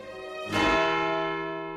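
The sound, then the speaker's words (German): A single bell strikes once from a church tower, loud, its deep metallic tone ringing out and slowly fading with a long, humming resonance. No voices are heard. “Alles dieses ist so stille, dass man in mancher klaren Nachmittagsluft weithin den Hahn krähen hört oder den einzelnen Glockenschlag vernimmt, der von dem Turme der Kirche fällt.”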